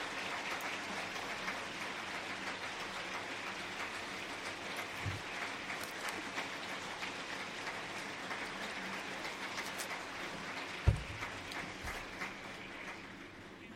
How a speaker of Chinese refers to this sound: 我在这儿呢我要对他们表示感谢，用我们热烈的掌声对他们表示感谢。